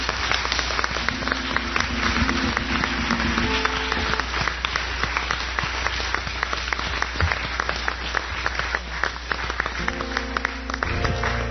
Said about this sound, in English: That's a good old American applause accompanied by a Haitian drum beat.